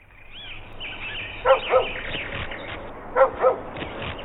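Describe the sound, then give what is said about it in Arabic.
A dog barks happily in two quick double bursts, lively, with a short pause between the pairs, after being brought a piece of food. A soft background hiss and faint chirps run underneath. “بعد فترة قصيرة قرر رياض أن يأخذ قطعة من الطعام ويذهب بها إلى الكلب، ولذلك نهض الكلب من مكانه وبدأ ينبح وينبح وهو سعيد بما قام به رياض.”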